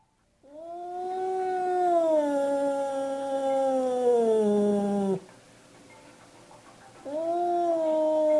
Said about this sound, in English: looking through glass French doors, defending his territory from the visiting cat that's on the deck.